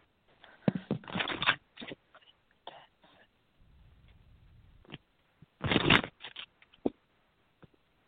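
Cards being shuffled for a caller on a phone-in: two louder riffling bursts with scattered softer flicks and taps between them, irregular in rhythm, with a brief low rumble in the middle and no talking.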